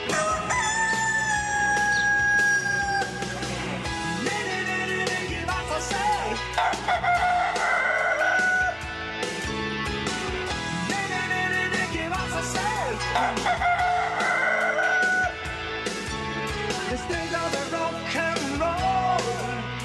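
A rooster crows loudly, several long, strained calls repeating every few seconds over a busy, noisy background.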